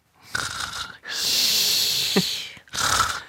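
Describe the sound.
A person imitates how a sister snored as a child: a short raspy inhale, a long wheezy hissing breath with a brief snort in the middle, then another rasping breath. No words are spoken.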